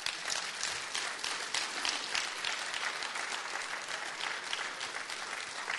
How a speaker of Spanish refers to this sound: Si Dios le habló, dele un aplauso a Él.